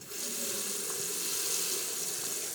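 Steady rushing water pours from a tap, a continuous bright hiss that holds evenly for a couple of seconds, with no voices over it; the tap is turned on to check whether there is water today.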